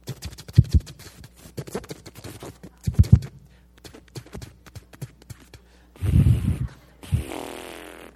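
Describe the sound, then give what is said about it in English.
A voice imitates a lawn mower sputtering while mowing grass: irregular popping, spitting clicks that stumble unevenly, then two louder rough, breathy bursts as the engine noise chokes out and stops, the mower having run out of gas. “I'm out there mowing, and all of a sudden, as I'm mowing, the mower goes.”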